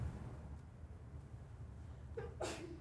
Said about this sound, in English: On that sneeze, you're dismissed.